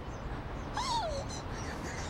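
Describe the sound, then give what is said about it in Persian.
A single short, high whimper from a Welsh-breed dog, a thin whine that slides downward in pitch, heard briefly against a steady background hiss with no one speaking. “این چه یه سگه؟ از نژاد ولزیه، خیلی خوشگله، همه جا میتونی پیداش کنی.”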